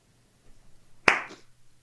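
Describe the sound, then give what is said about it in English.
One sharp, loud hand clap rings out after a quiet moment, its crack fading quickly over a low steady hum, the slow start of a deliberate clap. “You're getting the slow clap here.”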